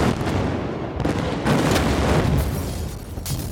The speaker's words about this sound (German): Um die Explosion, Krieg? Explosion. So richtig geil Sachen in die Luft sprengen.